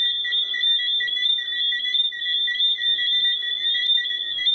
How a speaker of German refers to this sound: So klingen Johnstones Pfeiffrösche. Die Tiere können so laut sein, dass ihre nächtlichen Konzerte in Teilen Südamerikas wegen Lärmbelästigung zu einem Verfall der Grundstückpreise führen.